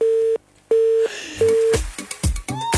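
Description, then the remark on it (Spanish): Three steady, evenly spaced telephone tones beep clearly on the line, each lasting about a third of a second, followed by a burst of clattering, clicking handset noise. “Papito, tenemos teléfono por acá.”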